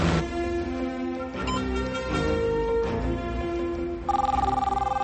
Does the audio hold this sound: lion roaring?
no